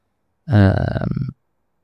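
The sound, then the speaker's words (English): A single big yawn, fairly loud, rising out of silence into a drawn-out, groaning vocal stretch that lasts just under a second before cutting off. “Nice big yawn at the end of the show.”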